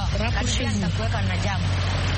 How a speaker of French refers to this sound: Je vois qu'il y a un peu de circulation.